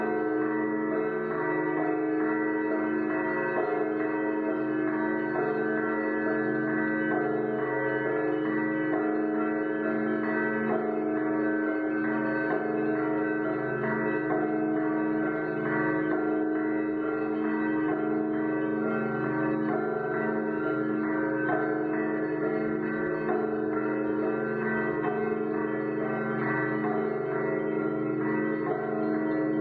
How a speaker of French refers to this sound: Donc ça c'est la sonnerie de Pskov qui est assez rapide.